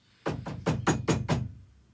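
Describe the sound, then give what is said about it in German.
Six quick, evenly spaced knocks on the wooden door of Grandmother's house, the wolf knocking in a telling of Little Red Riding Hood; each a solid, resonant thud with a short ring, landing in a steady rhythm before silence. “Der Wolf aber ist auf direktem Weg zum Haus von Grossmutter gelaufen und hat an die Tür geklopft.”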